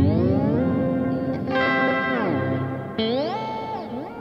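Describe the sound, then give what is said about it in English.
An electric guitar played through a reverb unit that includes a Digitech Whammy pedal plays sustained notes that swoop smoothly up and down in pitch, loud and alone with a washy, echoing tail. “Okay, so there's my reverb, but it also happens to have my Digitech Whammy in it, which doesn't make any sense to put a Whammy in a reverb in the same spot.”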